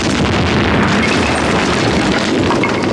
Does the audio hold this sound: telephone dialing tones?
no